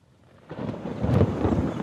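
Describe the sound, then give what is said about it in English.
Thunder from a monsoon storm over the forest at Ranthambore rolls in after a brief hush, swelling into a loud, deep, sustained rumble with a faint hiss of rain or wind beneath it. “A dark, stormy sky. The monsoon of that year was a critical moment.”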